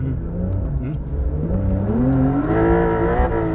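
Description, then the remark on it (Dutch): A car engine revs hard on sand, its loud, continuous roar climbing steadily in pitch across a few seconds, with no voices over it. “En eigenlijk heb je alleen op sneeuw of dit soort zand dat hij zo'n motor zeg maar, zo snel zo toeren kan maken. Dit hè.”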